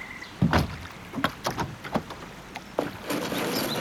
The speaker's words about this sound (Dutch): Peddel maar mee. Wauw! En pas op voor die tak daar.